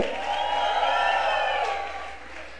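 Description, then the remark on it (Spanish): A church audience claps and shouts joyfully in praise of the Lord, a dense swell of applause mixed with whoops and high cheering voices lasting a few seconds, then gradually thinning out. “Dele un fuerte aplauso al Rey de Reyes y al Señor de Señores. Deme un grito de júbilo.”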